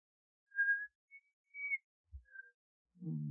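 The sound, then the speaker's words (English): Someone tries to whistle, managing only a few thin, wavering notes with gaps between them, followed by a dull bump and a low vocal murmur at the end. “I never could whistle.”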